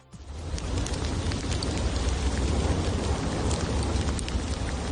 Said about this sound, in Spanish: Las explosiones vuelven al Cumbre Vieja y en cada una de ellas expulsa pequeñas piedras como si fuera granizo, a una gran altura además.